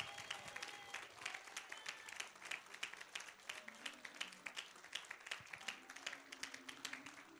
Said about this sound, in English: Now clap your hands like it's going out of style.